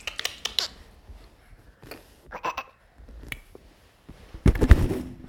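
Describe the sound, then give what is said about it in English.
Sharp tongue clicks like a trotting pony come in short, irregular bursts, with quiet gaps between them, then end in a louder, denser cluster of clicks. No one speaks. “Tickle, tickle, tickle, and you're clicking like a pony.”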